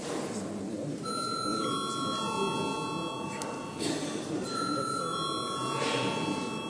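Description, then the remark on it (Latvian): A parliamentary voting call bell rings in two long, steady electric bursts, loud and clear over a constant background murmur, rung after deputies request a vote. “Deputāti prasa balsojumu, lūdzu zvanu.”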